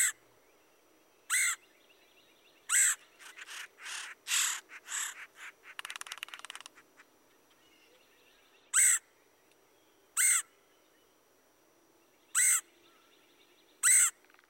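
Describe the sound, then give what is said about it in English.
A red-headed woodpecker gives harsh, raspy calls, repeated at spaced intervals, with a brief flurry of quicker scratchy notes partway through; clear against a quiet background. “Here's the raspy call of the red-headed woodpecker.”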